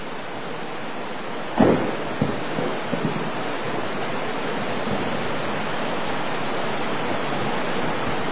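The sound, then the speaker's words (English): Heavy rain, long awaited by the corn in the fields, pours in a steady, dense hiss that holds at an even level throughout, with a few sharper taps or splashes standing out in the first few seconds. No one speaks. “And may our hearts be like the corn out there in the field that was just thirsting for this rain.”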